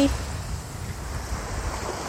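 Ocean waves wash against the shore at Isshiki Beach in Hayama, Japan, on a fine sunny day, in a steady, low rushing roar, with wind-like hiss and no distinct individual breaks across the short stretch.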